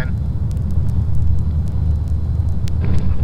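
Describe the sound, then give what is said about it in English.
The engine of a residential police patrol car rumbles steadily from inside the moving vehicle, a loud low drone with faint clicks and ticks scattered above it. “99 is riding with Unit 7, one of the residential patrol cars.”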